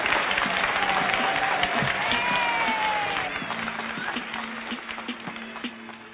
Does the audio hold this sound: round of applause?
yes